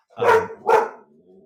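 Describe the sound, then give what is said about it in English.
Two sharp, loud dog barks in quick succession, followed by a faint lingering tail of sound with no talking. “you're gonna have to edit out a dog.”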